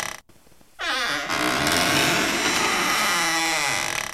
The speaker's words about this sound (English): I heard that was a door, right? That was supposed to be a door opening. It was some sort of squeaky sound.